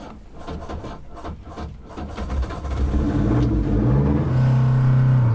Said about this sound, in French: Je vais mettre le moteur.